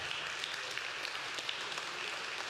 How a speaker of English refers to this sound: All right. Yeah, give them a hand clap.